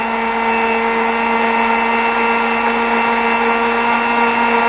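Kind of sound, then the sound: household object, blender running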